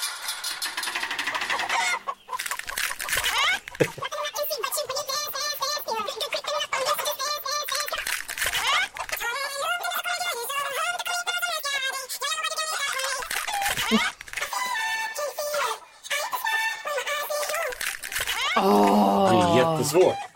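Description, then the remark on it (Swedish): Several chickens in a henhouse cluck and squawk continuously, a busy, overlapping chorus of warbling calls that grows louder and harsher near the end. “Så att vi tar och öppnar hönsgården och så ser vi nu, gissar vi ägg nummer 1, 2 eller 3?”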